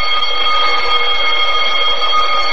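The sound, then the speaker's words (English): An alarm bell in a stuck elevator rings continuously and loudly, a steady harsh metallic clangor sustained without pause for the whole stretch, unbroken, with no voices over it. “That's what this here alarm's for, you know.”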